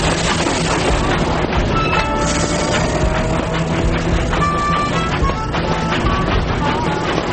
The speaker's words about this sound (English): The target this time, a mail train out of Chicago.